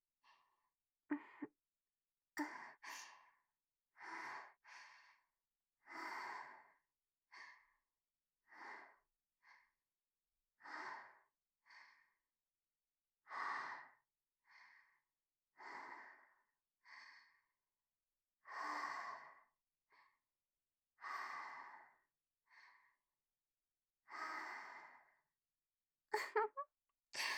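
A long run of breathy exhales, around seventeen airy puffs at an uneven pace, each about a second long, with short quiet gaps between them and no talking.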